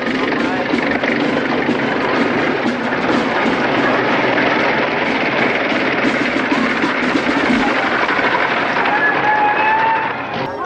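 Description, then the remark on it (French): An early motor car engine, a car appearing in a western film, runs steadily, a loud, dense rattling drone that holds for the whole stretch and eases slightly at the very end. “Une voiture à moteur qui apparaît dans un western, d'autant plus qu'elle va servir à un moment à torturer un des personnages en le traînant comme on traînait auparavant les hommes punis avec des chevaux.”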